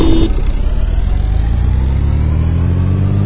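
Car engines from a racing video game idle at the starting line of an online race against player 2, who drives a Blackbird. They make a steady, loud low drone whose pitch creeps slowly upward, with a short electronic beep at the very start.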